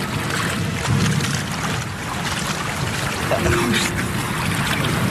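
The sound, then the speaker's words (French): Water washes and sloshes steadily into a pedal boat on a lake as the wind rises, a loud, continuous churning with gusty wind noise mixed in and no voices. “On prend l'eau.”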